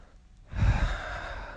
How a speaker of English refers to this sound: Close your eyes now. And listen to my breathing.